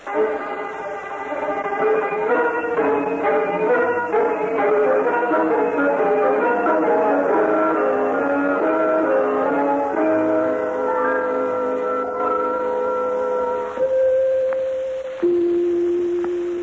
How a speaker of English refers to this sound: Did you not hear those beautiful chimes? That is enough pushing on the bell